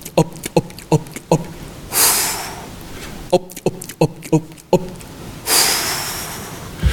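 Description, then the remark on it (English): Rapid series of short, wet gulping sounds in quick bursts, each run ending in a longer, hissing breath, repeated twice with no talking; a man paralyzed from the neck down by polio, including his diaphragm, gulping air by frog breathing. “he had to gulp his breath, or what he would call frog breathing.”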